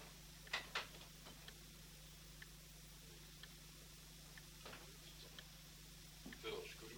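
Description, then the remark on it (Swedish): Irregular mechanical ticks and clicks from a hand-operated lift mechanism, a few sharper knocks among them, over a steady low hum. “tickar här upp och slås ut.”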